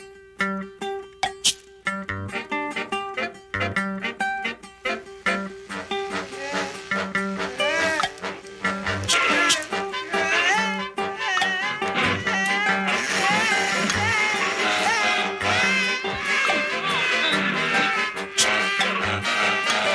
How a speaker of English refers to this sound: I mean, David, you can hear it goes from power tool to a typewriter, all sorts of things, very ahead of its time.